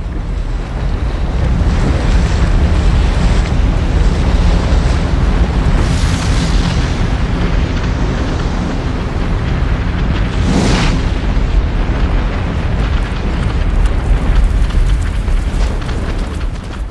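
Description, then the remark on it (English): A steady, loud roar of a volcanic eruption with bubbling lava, a deep churning rumble that holds throughout, with two brief hissing surges of steam partway through. “Lava bubbles and steams.”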